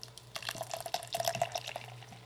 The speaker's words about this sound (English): Let's get some nice can pouring sounds here.